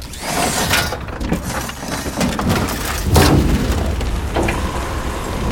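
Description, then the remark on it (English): A howling storm in a canyon on Mars roars loud and steady throughout, with sudden gusting bursts and sharp cracking impacts rising out of the constant rushing noise; no voices are heard. “Storm's getting bad.”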